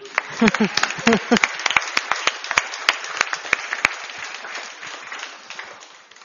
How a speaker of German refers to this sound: Geben wir Ihnen einen Applaus.